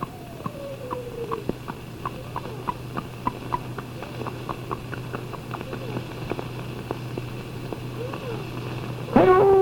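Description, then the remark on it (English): A voice imitates a horse, with steady rhythmic clip-clop clicks over a low hum, ending in a brief high, wavering whinny at the close. “Like a horse, I'll now be a horse.”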